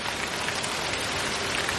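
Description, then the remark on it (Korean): Steady rain falls and patters on a surface, a dense, even hiss that keeps up without a break and with no voices present. “김 씨가 넘어지는 소리는 빗소리에 묻혀서 잘 들리지 않았다”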